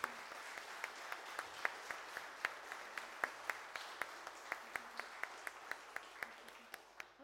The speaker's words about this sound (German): Und ich glaube, da müssen wir jetzt nochmal einen ganz dicken Applaus machen.